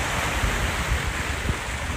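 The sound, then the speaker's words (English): Wake waves from a boat far down the river wash steadily against the river shore, a continuous broad, rushing splash with low rumbling surges and some wind buffeting, fairly loud, with no voices. “I think the boat's way down the river. That is such a delayed effect. But we're getting the waves now.”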